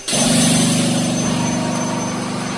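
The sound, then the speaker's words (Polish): A plaster mixing and spraying machine, mixing ready-made plaster mix with water and spraying it through hoses onto a wall, runs steadily, a loud continuous mechanical drone with a pulsing low motor hum and a faint high whine, starting abruptly and holding constant throughout. “Tutaj gotową mieszankę wrzucamy, w maszynie jest mieszana z wodą w odpowiednich proporcjach i wyrzucana przez węże na ścianę.”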